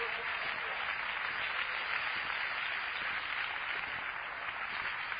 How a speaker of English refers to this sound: Let's applaud one more time for the Lord.